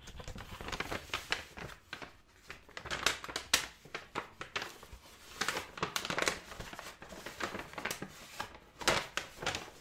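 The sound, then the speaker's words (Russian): A small, ordinary white plastic bag is opened to pack items into, crinkling and rustling in irregular bursts for about ten seconds, with no one talking. “Я возьму наш пакетик. У нас такие обычные беленькие пакетики. Сейчас его раскроем.”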